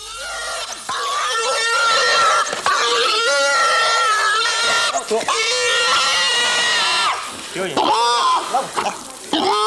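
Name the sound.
pig squealing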